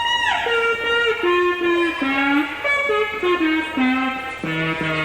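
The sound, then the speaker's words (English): An electronic instrument played through an amplifier, one control setting pitch and the other volume, gives a wavering tone that glides up and down in pitch, sliding between held notes with a warbling vibrato, loud and continuous, its volume swelling and dipping throughout. “That one does pitch, this one does volume, so you can go...”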